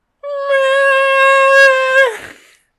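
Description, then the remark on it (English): A cat lets out one long, loud, sustained yowl lasting about two seconds, steady in pitch before breaking off abruptly into a rough, trailing rasp. “Yeah, your cat was screaming too.”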